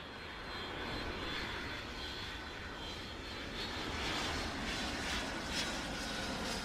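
A Boeing 747 jet airliner's engines roar steadily and loudly at Madrid-Barajas Airport, a broad rushing whine that swells slightly toward the end as the plane passes overhead, with no voices.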